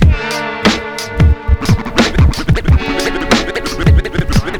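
Rapid DJ record scratching on a turntable over a looping music bed, with sharp back-and-forth swipes that sweep up and down in pitch in a fast, choppy rhythm, loud and without any talking.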